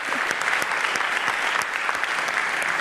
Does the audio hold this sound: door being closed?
no